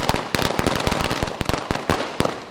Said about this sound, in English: His supporters, though, took to the streets celebrating his victory with music and dance, as well as firecrackers.